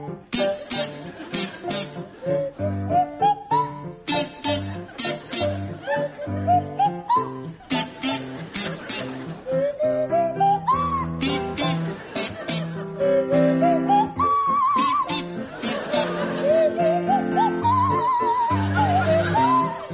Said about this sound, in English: So, Tim and Jeremy, you can start, and I'd like you to provide us with a rendition of The Blue Danube to feature Jeremy Hardy on the kazoo and Tim Brooke-Taylor on the Swanee whistle.